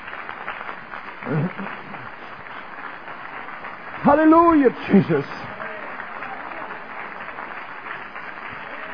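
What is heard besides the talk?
audience clapping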